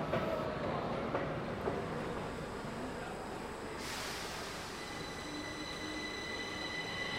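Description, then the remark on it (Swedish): A subway train rumbles loudly through an underground station, a steady roar of wheels on rails with thin metallic squeals rising partway through. No voices stand out over the noise. “om vi fortsätter sedan ner i tunnelbanan så ska vi se vad det finns för affischtavlor där”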